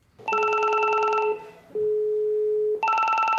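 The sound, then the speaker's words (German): Electronic telephones ring loudly at the public health office in Neukölln, Berlin, where people call the Corona hotline about every 10 seconds: a buzzy, trilling ring, then a steady lower tone, then the trilling ring starts again. No one speaks. “Die Telefone klingeln ohne Unterlass.”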